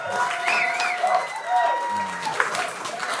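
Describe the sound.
An audience applauds in a dense, steady wash of many hands clapping, with a few voices and whoops mixed in, fairly loud and sustained throughout.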